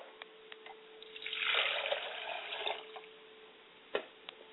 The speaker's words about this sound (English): And I always remember to pour water to the ground so that it will be fertile, and wherever it hits the ground, it will take up root and grow.